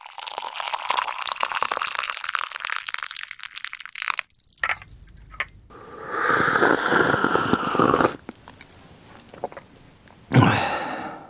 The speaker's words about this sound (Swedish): Här hörde vi någon njutningsfullt sörpla i sig en klunk nybryggt kaffe, och vad vet jag, kanske låter det så här hemma hos någon av de 2 78-åringar som har skickat mejl till oss om att dricka kaffe innan sänggående.